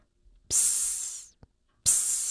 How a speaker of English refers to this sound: Finally, when the steam hisses, make your own hissing sound in time with the music.